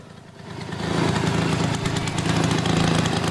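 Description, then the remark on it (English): A small gasoline rototiller engine runs steadily, its low chugging drone rising in intensity after the first second and holding a loud, rough, continuous rumble with no voices. “That's Rob's rototiller.”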